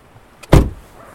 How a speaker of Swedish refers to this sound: En bil från Pite Energi stannar vid den nyare kraftstationen som byggdes 1989.